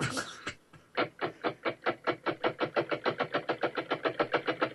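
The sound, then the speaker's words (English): A steam locomotive chugs steadily, its rhythmic puffs of exhaust starting slow and quickening into a fast, even beat, loud, after a brief initial hiss. “No, that's a steam engine.”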